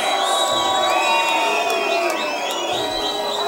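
A large crowd in London at a Progression Session drum and bass event cheers and shouts continuously, with many overlapping high whoops and yells forming a dense, loud roar that holds steady for a few seconds.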